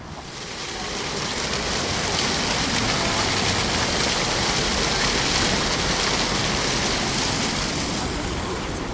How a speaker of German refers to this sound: Das ist ein Wasserbrunnen und das Geplatsch ist etwas entspannend.